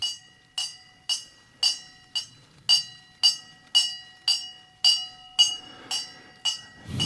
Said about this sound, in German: Der Klingelbrunnen. Es klingelt. Und zwar ist versteckt ein kleines Seilchen hier, wo man dann ziehen kann. Finde ich großartig.